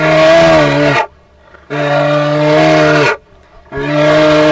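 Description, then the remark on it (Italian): Three long, loud, mournful bellows like a moose, each lasting about a second with short pauses between, low and droning with a rich, steady tone. “Questa era l'Alce Rufus sconfortata, scornata di tutto questo.”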